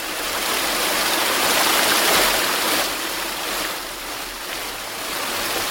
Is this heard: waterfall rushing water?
yes